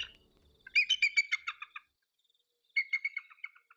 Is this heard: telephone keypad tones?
no